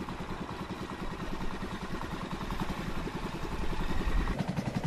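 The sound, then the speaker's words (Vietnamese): A small motorboat engine chugs steadily on flooded fields at dawn as villagers head out to set fish traps, its rapid rhythmic thumping and clatter continuing without pause and swelling slightly louder toward the end. No voices are heard. “Xuồng ghe bắt đầu nhộn nhịp tấp nập trên đồng.”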